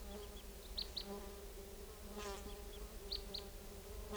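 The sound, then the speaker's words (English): A flock of about four type 2 crossbills, lured in and perched in treetops about 60 feet up in a tall lodgepole above a net area, gives short, high chirping calls, scattered and often in quick pairs, over a steady low insect-like buzzing hum. No one speaks. “Recording, the flock is calling a little bit from the treetops.”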